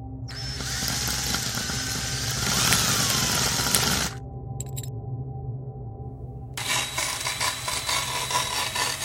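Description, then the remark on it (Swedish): A power drill whines and grinds into a tooth, a lower central front tooth, for several seconds, stops briefly, then starts up again with a rougher, rattling bite. “Varför inte prova med en borrmaskin och se hur lång tid det skulle ta att få en tand att helt tillintetgöras?”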